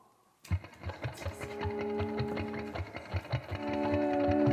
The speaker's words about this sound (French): Vous l'entendez, la boule miroir tourner, hein? On l'entend qui grince.